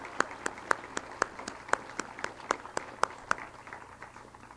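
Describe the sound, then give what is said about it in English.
An audience at the Florida Folk Festival claps a performer off the stage in a steady, even rhythm, the sharp claps landing almost in unison over a low murmur of crowd noise and fading slightly toward the end. “Yes, let's give him a hand. Clap him off the stage.”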